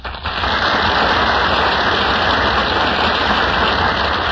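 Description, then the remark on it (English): Loud, sustained audience applause at the Gulf Theater radio show as William Powell and Ginger Rogers enter from the wings, a dense, steady crackle of many hands clapping that swells in quickly and holds at an even level throughout, with no voices over it. “That applause, ladies and gentlemen, means that William Powell and Ginger Rogers are now entering from the wings of the Gulf Theater.”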